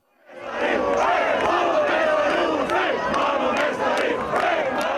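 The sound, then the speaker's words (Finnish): Thousands of fans celebrating the Finnish national team, the Leijonat, cheer and shout at a town market square in Finland around midnight, rising quickly into a loud, steady roar of many voices with scattered sharper cries and bursts throughout. “Torilla juhlijoita on ollut tuhansittain.”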